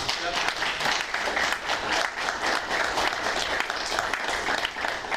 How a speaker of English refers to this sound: Thank you for starting that clapping. Well deserved. Another round of applause.